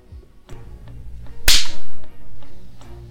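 A single sharp, loud crack of a rattan cane strike cuts through a low, steady background hum, with a few faint clicks before it and no voices.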